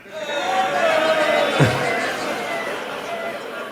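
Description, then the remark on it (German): A live audience imitates construction-site noise all at once, including concrete mixers: a dense babble of whirring, droning and rumbling sounds, with one falling whistle-like tone and a low thud near the middle. “weil neben dem Haus ist eine Baustelle, deswegen brauchen wir Baustellengeräusche von euch.”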